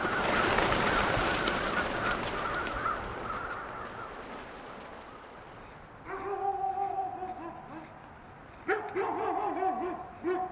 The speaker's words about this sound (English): As thousands of crows flee the trees, their wing beats sound like a rainstorm. And their deep black forms against the gray sky look like night itself taking flight.